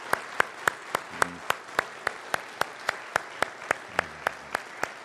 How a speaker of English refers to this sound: So thank you for your service and what you've done for our country. Let's give them a round of applause here this morning.